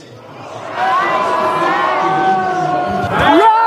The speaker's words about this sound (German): Jubel bei den Anhängern, die vor allem ihrem Spitzenkandidaten danken, Herbert Kickl.